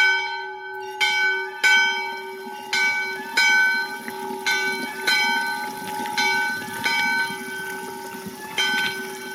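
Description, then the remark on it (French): A storm bell in a granite stone bell tower dated 1779 rings out in repeated loud strikes, roughly one per second, each clang leaving a long shimmering tone that overlaps the next. No voices, just the bell and faint outdoor background. “Cloche de tourmente.”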